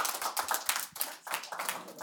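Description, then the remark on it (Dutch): A crowd applauds a panel of experts with dense, steady clapping, many hands overlapping into a bright rustling roar with a few sharper individual claps standing out, fairly quiet overall and with no voices. “Mag ik een heel groot applaus voor deze experts?”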